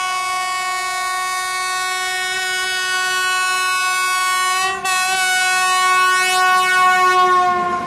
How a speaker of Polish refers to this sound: Nagle gwizd, nagle świst, para buch, koła w ruch, jedzie pociąg z daleka, na nikogo nie czeka.